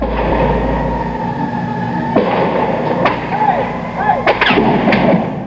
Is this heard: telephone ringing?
no